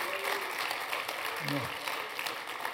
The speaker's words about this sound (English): If you're called in this place, clap your hands and celebrate your calling. Celebrate it.